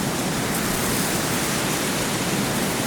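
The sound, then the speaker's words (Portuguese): A steady, even rush of wind blows without pause through the Alto São João cemetery, a full hissing wash of noise that holds the same level throughout, with no voices or other sounds. “Os coveiros pousam as enxadas e o vento continua a atravessar o cemitério.”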